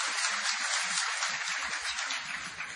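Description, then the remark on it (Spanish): Steady, dense applause from an audience, given as an applause of blessing in recognition of Zaragoza: a continuous hiss of many hands clapping at once, with a few low thumps underneath and no voices. “Un aplauso de bendición.”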